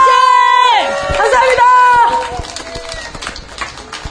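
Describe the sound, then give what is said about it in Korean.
An audience at a theater festival breaks into cheering and applause for two performers, with loud voices whooping at first, then dense, rapid clapping that gradually fades and thins out toward the end. “다시 한번 큰 박수 부탁드리겠습니다.”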